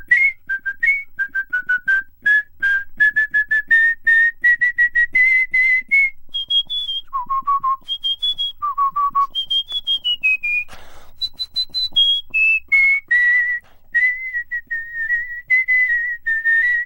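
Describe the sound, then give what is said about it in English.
Skilled human whistling by a whistling champion carries a lively melody alone, with rapid trills, clear sustained notes and swooping pitch jumps, loud throughout with no talking. “I was driving along listening to your interview with whistling champion ….”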